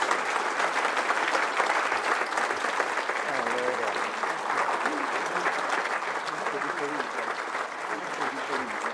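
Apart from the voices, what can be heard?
applause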